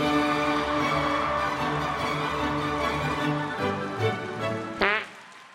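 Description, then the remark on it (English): A long, buzzy fart sound effect with a thin, low-fidelity tone, rasping steadily for several seconds before ending in a quick rising squeak. “As you all know, you've done this bit enough that you could have found a higher quality, higher res fart sound effect.”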